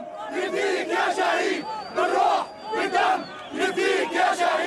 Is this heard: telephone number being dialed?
no